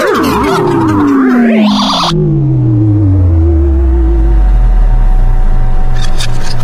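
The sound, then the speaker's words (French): A microwave oven makes a strange, loud noise: warbling, rising tones cut off abruptly, then a long descending mechanical whine and hum that winds down. No one speaks. “Qu'est-ce que tu fais la tête dans le micro-ondes ? Il faisait un bruit bizarre, je voulais vérifier si tout fonctionnait.”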